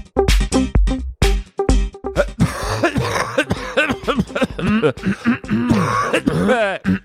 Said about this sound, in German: Es ist nicht so, dass ich mich gerade räuspert würde, …, was du da versuchst zu imitieren. Ich habe wirklich Husten.